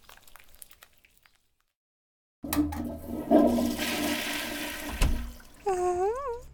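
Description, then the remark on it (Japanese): A toilet in a cramped toilet cubicle flushes with a sudden loud rush of water after a short silence, churning steadily for several seconds before the tank refills with a rising, warbling hiss. “おトイレ狭いね。個室は3人じゃきつすぎだよね。”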